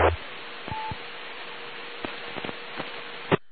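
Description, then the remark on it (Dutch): Telephone dialing tones as a radio operator dials his telephone check-in point, a handful of short beeps and clicks spaced irregularly over a steady hiss of radio static, fairly faint, with no voices. “Ik ga ze eerst eens even proberen bij mijn telefonisch inmeldpunt.”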